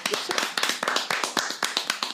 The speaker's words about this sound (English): Give it to y'all. Shout out to y'all, man. One more time. Round of applause for women.